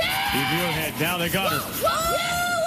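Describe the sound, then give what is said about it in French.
A female curling thrower shouts urgently for her teammates to sweep the ice very fast to carry the stone's trajectory: a string of short, rising-and-falling yells, then a long, high sustained shout, ringing out against a noisy background. “Oui, ces cris, ce sont ceux du lanceur ou de la lanceuse en l'occurrence pour demander à ses coéquipières de balayer très vite la glace pour renforcer la trajectoire de la pierre.”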